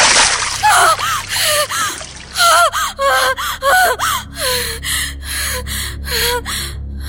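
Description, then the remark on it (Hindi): A bucket of water is poured over a woman to wake her from a dream; she gasps and sputters in a quick, breathless series of loud gasps, with sloshing bursts running through the whole stretch. “और आखिरकार जब मैं उस पर बाल्टी भर के पानी डालता तब जाकर वो अपने सपने से जागती।”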